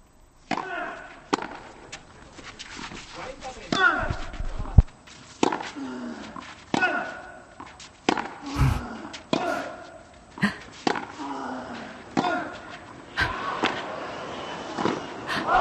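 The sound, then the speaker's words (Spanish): A courtside tennis rally heard from beside Nadal's chair: a long run of sharp racket-on-ball strikes at a steady back-and-forth pace, with shuffling footsteps and a soft background murmur between hits, ending as Carlos Alcaraz wins the point with a volley at the net to lead 2-4. “¡Vaya puntazo de Carlos Alcaraz, que encuentra la volea en la red, que encuentra el 2-4 a su favor!”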